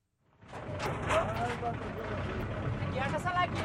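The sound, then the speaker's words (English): A heavy, rattling engine of a rickety truck rumbles steadily as workers wave it back into a dump ground filled with burlap sacks of plastic waste in New Delhi, India, while indistinct voices call out over it, with a brief high whine partway through. “Workers are waving a rickety truck back into a dump ground filled with burlap sacks of plastic waste.”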